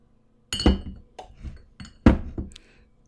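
Glass clinks against glass several times in an uneven rhythm, sharp bright chinks as a bottle of red wine and wine glasses knock together, with no one speaking.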